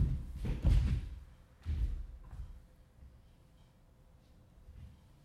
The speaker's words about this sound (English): From here, let's do something fun. Let's push the knees away from the torso until your heels are pulled to the floor by gravity with a thud.